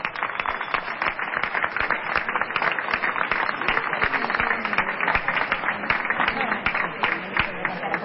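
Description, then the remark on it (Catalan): A crowd in Roda de Barà bursts into sustained applause to encourage performers about to build human towers, starting with a pilar de 5. Dense overlapping claps form a steady, energetic roar that holds at an even level throughout, without any voices standing out. “el que sí que demanem una miqueta d'espai que puguin fer les construccions de forma tranquil·la i un aplaudiment per donar-los ànims també perquè els hi surti d'allò més bé.”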